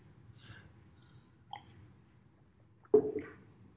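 A quiet sip and swallow of water as a speaker pauses a Bible teaching to take a drink: a faint mouth sound early on, then a sharper gulp near the end, over a low steady background hum with no talking.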